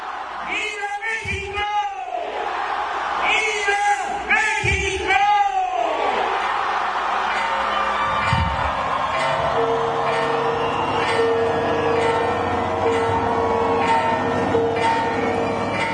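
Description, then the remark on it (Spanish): A huge crowd of more than 80,000 people at Mexico's National Palace roars and cheers at the president's Independence Day shout from the central balcony, in repeated surges, with big rising shouts in the first few seconds, then a sustained, echoing din of voices while bells ring steadily. “Desde el balcón central del Palacio Nacional y ante más de 80.000 personas, López Obrador cumplió con el tradicional grito”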